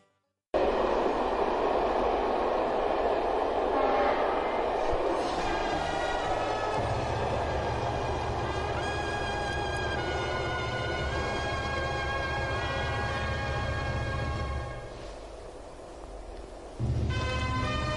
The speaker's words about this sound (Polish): Pociąg przyjechał, to mogę wracać do opowieści swojej.